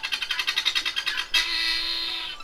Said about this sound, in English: And speaking of the latter, they said, and it should be remembered how helpful this will be in the worst case scenario of villains coming along, these guinea hens are loud.